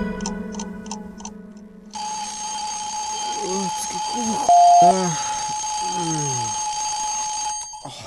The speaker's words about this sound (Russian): На часах 3 утра за стенкой соседский будильник звенел.